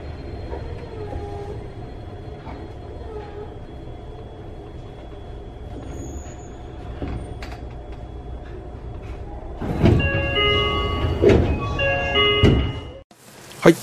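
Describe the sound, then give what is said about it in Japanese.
Inside a moving train car, a steady low rumble runs throughout, broken by repeated thumping clatters from the rail joints that grow louder and denser near the end, with a final sharp knock. “車内の音ですね、 はい、 でちょっと私もちょっとあと思ったんですけど、なんかジョイント音みたくこう聞こえてるんですね、はい、ところがあって、あというかもうずっと聞こえてるんですね。”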